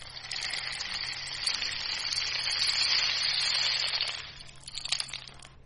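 A homemade rain stick filled with beans and sealed with a glued-on cover is tipped, releasing a steady, hissing rush of tiny pattering grains that fades after about four seconds, then a short, softer flurry of rattles follows.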